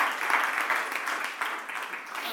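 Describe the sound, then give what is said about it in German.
A steady burst of audience applause, many hands clapping together in a dense, continuous wash that holds at an even level for a couple of seconds. “Einen herzlichen Applaus an du.”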